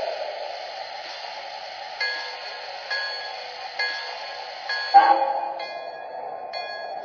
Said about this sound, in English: arriving from Cleveland on track 1. Train number 421, the Cleveland Special.